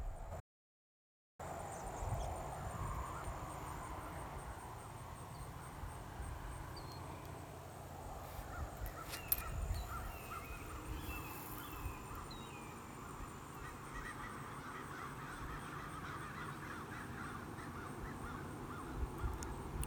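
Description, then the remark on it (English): Faint, distant crows caw now and then over a steady low rumble of passing traffic, with no one speaking. “I might have captured some of the red-shouldered hawk and the crows off in the distance in between traffic.”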